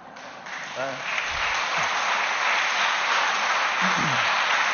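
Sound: audience applause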